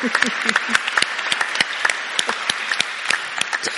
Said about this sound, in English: I think we'll clap. Thank you.